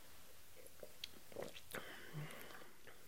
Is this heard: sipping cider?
yes